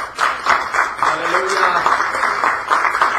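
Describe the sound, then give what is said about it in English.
A roomful of people clap their hands to Yahweh in a dense, steady burst of applause-like clapping, with a voice faintly audible underneath. “Everybody in this room, clap your hands to Yahweh.”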